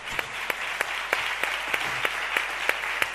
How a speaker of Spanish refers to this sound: Bueno, en primer lugar, le voy a dar un aplauso a tu mujer, porque estas son las mujeres que a mí me gustan,